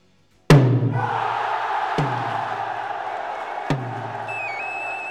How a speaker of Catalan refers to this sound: Esclat de festa després de sentir aquest so. Centenars de persones, milers més ben dit de persones, s'han aplegat per viure en directe el primer toc des de Can Olivà, que aquest bienni és la seu del Caixer Senyor, ben davant de la Catedral de Menorca